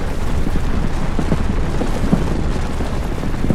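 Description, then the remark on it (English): Sereno's assembly building collapsing: a sustained, heavy rumble with dense low-end roar and scattered crunching bursts throughout, loud and continuous without any voices. “Sereno's assembly had stood for generations, surviving invasion, storms, and revolution. But now it came tumbling down.”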